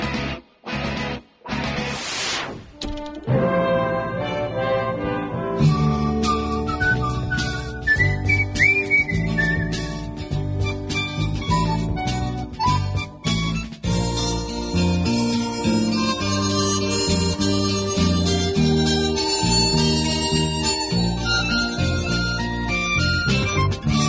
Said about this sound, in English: There's a good example of an ad, Old Spice it is, sure. From many years ago. One of the few jingles where somebody was whistling and it wasn't the Andy Griffith Show.